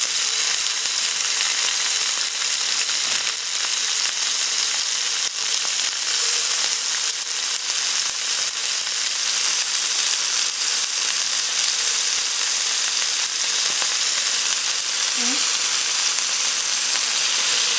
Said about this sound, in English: What we're gonna do is now just put some olive oil in here, and pan is really nice and hot. To this, I'm just gonna go ahead, and you can hear that sizzle. That's exactly where I want my pan to be.